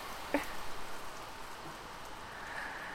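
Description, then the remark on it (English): Steady rain patters down in a soft, continuous hiss, with a few sharper drops striking near the start and no voices. “I guess there are worse places to be right now. The rain falling.”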